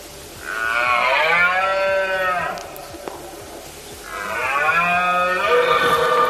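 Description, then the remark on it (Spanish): A red deer stag bellows twice during the rut, each call a long, loud, strained roar with rich harmonics, lasting about two seconds, separated by a short pause. “Bueno, es la famosa berrea del ciervo, que llega cuando los animales están apareándose y siempre con las primeras lluvias, es decir, a mediados de septiembre.”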